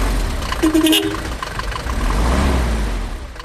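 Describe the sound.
An old, worn-out Mercedes car engine in Mauritania runs with a steady low rumble and slight rises in revs, while an indistinct voice briefly murmurs over it early on.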